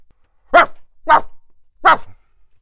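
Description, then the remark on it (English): A person imitates a dog, letting out three loud, sharp barks with short gaps between them and silence in between, no other talking. “It's no good barking your stupid head off, snapped the parrot.”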